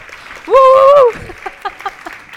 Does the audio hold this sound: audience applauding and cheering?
yes